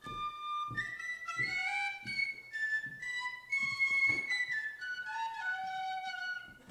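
A man plays a short, lively tune on a tin whistle, with bright, piping notes, clear, and soft low thumps beneath it keeping a loose beat.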